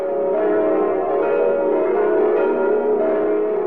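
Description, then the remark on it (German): Church bells of the Church of the Nativity in Bethlehem ring together in a dense, sustained wash of overlapping tones, fairly loud and steady throughout, with no voices present. “Die Glocken der Geburtskirche von Bethlehem.”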